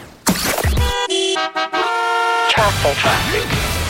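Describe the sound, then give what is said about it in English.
A loud traffic sound effect like a radio stinger, set off by hitting the traffic button on the Team Awesome Morning Party radio show: car horns blare in a sustained, stuttering honk, framed by brief bursts of busy street noise before and after. “And then he hits the traffic button.”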